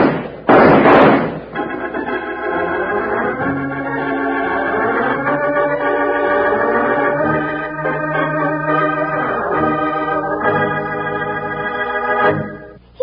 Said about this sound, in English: Jingles was just about right here when those shots cut loose, Wild Bill. They're shooting again, Bill. Get back under the roof, Buddy. They're coming from the rooms again, Bill.